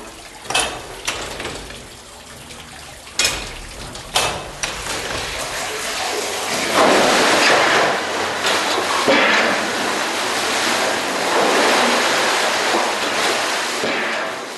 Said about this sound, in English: When the machine works properly, this cog lever here, see these bolts here, these act on the various levers. So it has an automatic action. A little bit like this.